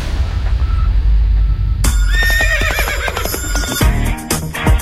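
A horse lets out a loud, quavering whinny that rises and shakes for about two seconds, following a low rumbling background and ending with a few snorting, clattering sounds.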